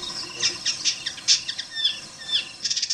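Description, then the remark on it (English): An indigo bird sings a bright, rapid series of high chirps, buzzy trills and whistled notes, clear over a soft outdoor background hiss. “For 3 months every year, he'd disappear from Boston to the woodlands of Cameroon to study the indigo bird.”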